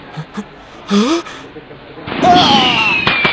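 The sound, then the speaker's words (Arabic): Fireworks go off after a few short vocal sounds: a hissing, crackling burst swells loudly with a thin whistling tone gliding downward, then a sharp pop near the end. “إذن كن حذرا من هذه الألعاب النارية.”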